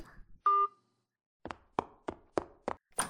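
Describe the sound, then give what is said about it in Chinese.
A short electronic beep, then a pause, followed by six sharp, evenly spaced knocks on a door, fairly loud, with no voices, as a child back from school knocks to be let in. “这家小兔崽子放学回来了，我去给他开门了。”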